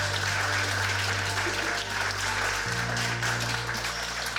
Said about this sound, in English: So please, can we have another warm round of applause for Kamla?